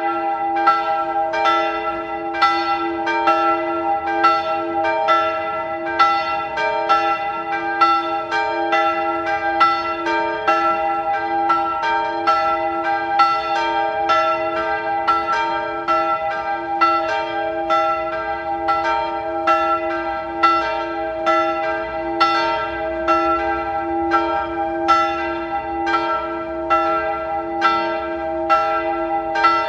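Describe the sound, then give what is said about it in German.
The bells of the Bürgerspitalkirche in Salzburg's old town ring at 12 noon, pealing steadily and continuously, their overlapping rings sustaining a rich, resonant harmonic hum. The ringing is loud, with no voices present. “Sie hören die Glocken der Bürgerspitalkirche in der Stadt Salzburg.”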